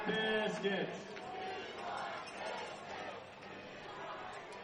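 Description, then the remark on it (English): A big ballpark crowd at SRP chants and cheers in unison during a minor league baseball game as the pitcher goes for a strikeout on an 0-2 count in the 7th inning, a loud, sustained wall of massed voices that swells at the start and keeps rolling throughout. “One of the best chants in all of minor league baseball, a hungry crowd at SRP.”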